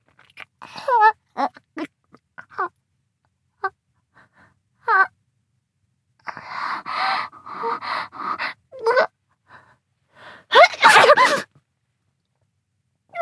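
sneeze

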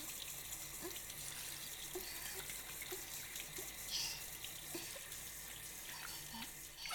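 shower water rinsing

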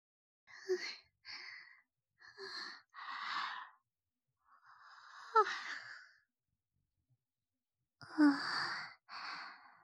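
yawn

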